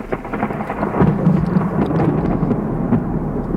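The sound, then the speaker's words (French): A violent thunderstorm resumes in the evening around a group of mountaineers, with deep, continuous thunder rumbling loudly over steady heavy rain, the low roar swelling briefly before settling into a sustained growl. No voices are present. “Mais le soir même, les espoirs de nos alpinistes s'estompent lorsqu'autour d'eux, l'orage reprend, encore plus violent.”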